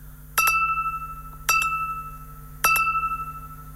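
Three bright, evenly spaced radio time-signal tones marking 10 o'clock, about a second apart, each struck sharply with a clear high pitch and left ringing before fading, with no talking over them.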